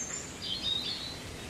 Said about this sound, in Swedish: Ja, nu kom rödhaken igång.